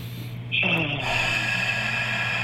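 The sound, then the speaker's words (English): A long, forceful exhale after a huge breath in rushes out, a broad airy hiss that holds steady for about two seconds over a low background hum. “So let's go with a huge, big breath in, all the way in. And exhale.”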